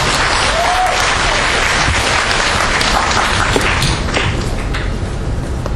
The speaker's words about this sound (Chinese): 下面掌声欢迎